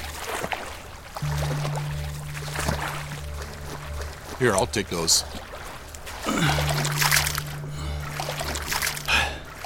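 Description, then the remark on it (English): Water sloshes and splashes with steady movement as a person wades through it toward a waiting plane, holding a coin master and duffel bag above the surface, over a low pulsing engine hum; a person speaks briefly partway through. “I do my best to hold the coin master and duffel bag up above the water's surface.”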